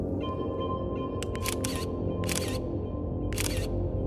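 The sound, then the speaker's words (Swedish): Several crisp SLR camera shutter clicks as photos are taken of a woman changing poses in her apartment, some in quick double or triple bursts with pauses between, clear over a steady low room hum. “Jeg knipser i vei med kamera. Knips, knips, knips.”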